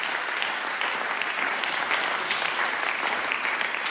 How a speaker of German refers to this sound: Danke. Gebt den beiden doch nochmal einen Applaus.